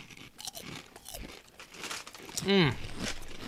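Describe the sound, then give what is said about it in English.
Crisp crunching of hickory smoked bacon and cheddar Diefenbach kettle chips being chewed, with rustly crinkling of the chip bag mixed in throughout, and a short voiced murmur near the end. “Well, first of all, you're not gonna like this. I don't think you got to know that it's gonna have the Diefenbach kettle cook crunch.”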